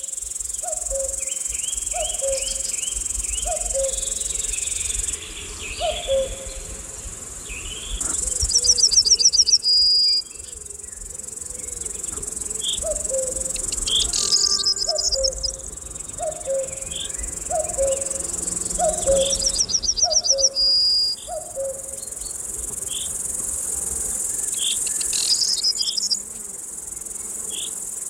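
A forest glade in summer hums with a steady, dense chorus of chirping insects, while birds call throughout: a cuckoo's repeated low two-note call in runs, with brighter chirps and trills above. No one speaks.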